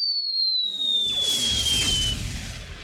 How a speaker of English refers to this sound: "Signal her," Phileas Fogg said quietly. The captain raised a signal flag and fired a little cannon.